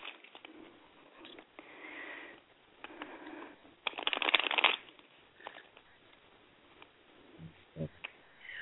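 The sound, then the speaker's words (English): A deck of cards being shuffled: scattered soft flicks and rustles, then a louder, dense riffle burst lasting about a second, followed by quieter handling and a brief voice near the end. “Let me shuffle the cards here.”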